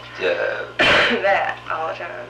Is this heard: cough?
yes